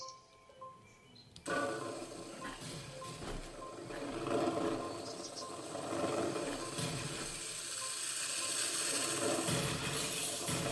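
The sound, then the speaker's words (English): A game sound effect of skateboards wrecking toy cars: after a quiet second, a loud, dense rattling and grinding clatter starts and keeps churning without a break to the end, with no talking. “So as you can hear, the skateboards are destroying the toy cars.”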